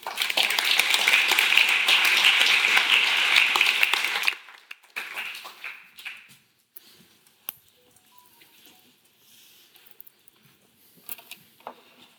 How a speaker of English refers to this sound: I'd like to give a great applause